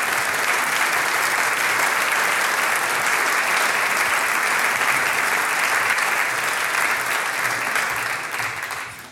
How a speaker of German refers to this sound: Wir bitten auf die Bühne Bürgermeister Hans Bosch und Kulturreferent Franz Nebel. Euer Applaus, bitte schön